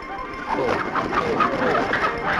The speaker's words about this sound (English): Doesn't everybody have a chicken in their upstairs bedroom? This is Gertrude.